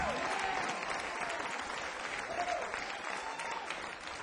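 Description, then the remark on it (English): Sustained audience applause for the band, a dense steady wash of clapping hands at an even level for several seconds, with a few faint whistles rising over the noise. “What a lively round of applause for the band back there.”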